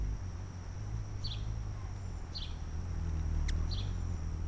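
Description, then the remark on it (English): A hummingbird's wings hum by a window in a low, steady buzz, while three short, high chirps sound at even intervals over it. No one speaks. “He hears the hummingbird by the window. It sounds kind of like a lawnmower, a little tiny lawnmower.”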